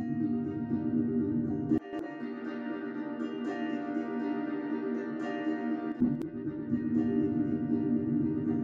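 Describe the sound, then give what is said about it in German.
A sustained musical sound drenched in heavy, washy reverb from an effect preset, with a long smeared tail; the low end abruptly thins out partway through, then returns near the end. “Ja, da muss ich Low Damp schon sehr weit nach rechts ziehen, damit der Hall EQ'd wird.”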